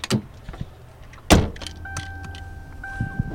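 A car door thumps shut amid rustling and shuffling as people get into the car, followed by a steady two-tone electronic chime, like a vehicle's door-open or seatbelt warning.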